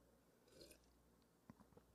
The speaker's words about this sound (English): Quick sip of sweet tea.